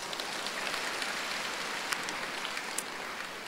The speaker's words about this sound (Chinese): 鼓掌。